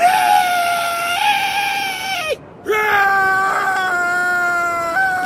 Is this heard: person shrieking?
yes